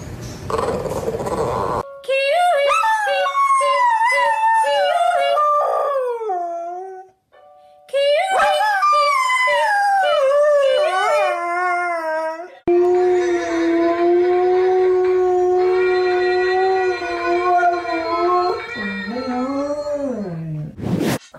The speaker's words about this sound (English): We don't need a fancy device to translate what these celebrity dogs are saying. Let's listen to Hugh Jackman, Amanda Seyfried, and Chris Evans's pup.